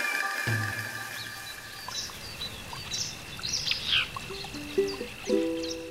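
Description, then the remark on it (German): Birds chirp and sing in short, scattered phrases over a steady outdoor hiss, with a few brighter calls standing out near the middle and end. No one speaks. “Wie geht's denn dir, wenn du diese Vogelstimme hier hörst?”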